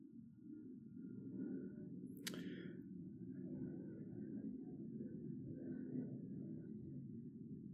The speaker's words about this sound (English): Gonna hold for this airplane really quick. Sorry, there was an airplane I was holding for it.